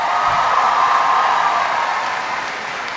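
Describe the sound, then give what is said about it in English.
A large audience at Knox College applauds the college president, a dense, steady wash of many hands clapping at once that stays loud throughout and eases off slightly near the end, with no voices over it. “Give Teresa a big round of applause.”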